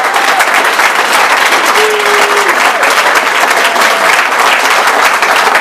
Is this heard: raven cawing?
no